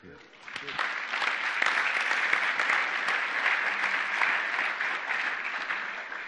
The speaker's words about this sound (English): So nice of you to clap.